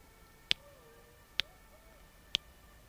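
Three sharp tongue clicks made by a man using echolocation across a river, evenly spaced about a second apart, each crisp and bright against a quiet outdoor background with no talking.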